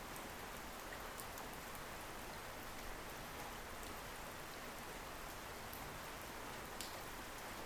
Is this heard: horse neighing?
no